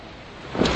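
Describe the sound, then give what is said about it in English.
A fizzy water bottle is cracked open, releasing a short, bright burst of hiss over a steady background noise. The fizz swells quickly near the end and keeps sizzling. “Woo, fizzy water.”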